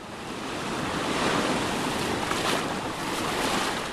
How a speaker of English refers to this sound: About 2 hours by boat off the Cambodian mainland, the island of Koh Rong Samloon is about as close as you can get to a tropical paradise. Waves gently crash against long stretches of nearly deserted beach as palm trees sway in the warm breeze.